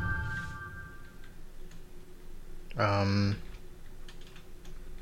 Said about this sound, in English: You type two characters and your WPM is 3. Oh. 3 is your highest WPM so far. Good work.